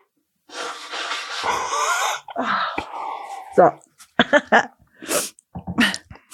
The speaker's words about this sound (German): Oh, Baby, darf ich dir ins Ohr niesen? Niesen, yes. Hör.